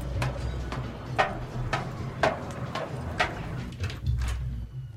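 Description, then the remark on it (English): A flat's door being unlocked and opened with a key at the top of a set of metal stairs: a steady series of sharp metallic clicks and clunks over a low background rumble, with no one speaking. “He heads through a back door, then up a set of metal stairs, taking a key from his pocket.”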